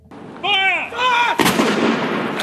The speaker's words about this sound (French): De l'Écosse à Gibraltar en passant par Londres où les navires de la Royal Navy, 41 coups de canon ont été tirés à midi aujourd'hui en hommage au prince Philippe.